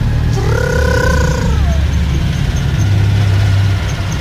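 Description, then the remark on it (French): A car engine rumbles steadily and loudly from start to finish as the vehicle drives, with a brief higher whine that glides downward early on before fading back into the drone. “J'aime bien quand on sent qu'elle respire comme ça.”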